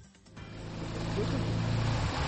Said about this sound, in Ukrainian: Світанок у селі Пухівка. Ледь чути гуркіт двигуна на воді, хоча він потужний. А ось і човен, яким керують двоє молодиків.